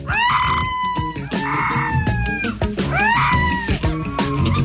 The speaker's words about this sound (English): Did you ever hear the howls of a young wolf pup?